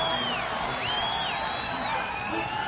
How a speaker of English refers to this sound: It's absolutely fantastic, the crowd response now at Kezar Stadium.